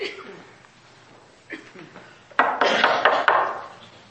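A few scattered knocks on a door, then a louder run of quick, sharp raps in an uneven rhythm, with faint sounds lingering around them.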